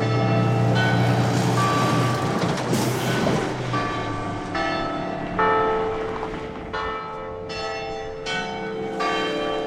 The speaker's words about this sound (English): Another audio recording tip, hang out by church bells. All right, so, they done? I'm walking away from the church bell.